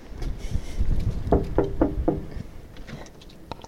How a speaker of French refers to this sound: Mais là, sur le long de la route, j'ai vu que 3 personnes étaient réunies dans une véranda, devant une maison. Je vais aller frapper à la porte.